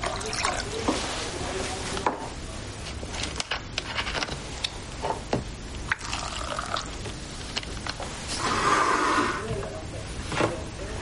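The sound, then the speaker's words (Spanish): Coca-Cola from a bottle pours into a plastic cup, a steady splashing stream with brief trickles and drips, swelling to a fuller, fizzing gush near the end. “Vacía el agua del vaso de plástico y echa en él Coca-Cola.”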